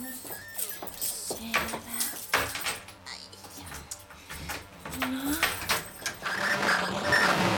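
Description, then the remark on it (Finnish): An old computer clatters and sputters, with irregular rapid clicks and rattles mixed with short whirring, beeping tones, growing into a steady mechanical chatter toward the end. “Nyt minä ymmärrän yskän. Sehän selvästi yskii.”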